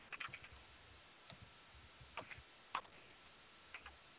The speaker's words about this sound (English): are you typing? I was just now.